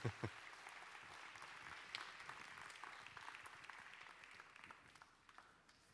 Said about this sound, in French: Vous pouvez les applaudir.